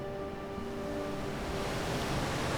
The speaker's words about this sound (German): Das Meer treibt ihn aufs Land zu und die Wellen spülen ihn an einen Strand.